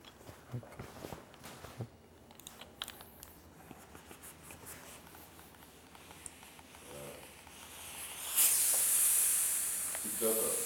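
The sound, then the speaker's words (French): Soft clicks and fabric-handling rustles, then a clothes iron releases a loud, steady hiss of steam onto a wrinkled garment without touching it, continuing for the last couple of seconds. “Du coup, là, tu veux juste la vapeur.”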